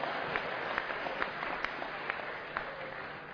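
An audience applauds steadily, a dense wash of many hands clapping at an even level for a few seconds, with occasional sharper individual claps popping out of the texture.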